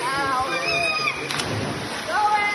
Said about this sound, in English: It's a sunny day, an hour out of Alice Springs. Locals frolic in the waterfalls of John Hayes Rock Hole, recently filled from heavy rain.